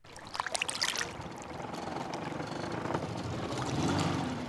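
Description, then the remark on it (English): A jet ski engine drones on Lake Pleasant in Phoenix amid a steady rush of water, with choppy splashing at the start and the motor's hum swelling louder toward the end. “I'm at Lake Pleasant jet skiing with my family.”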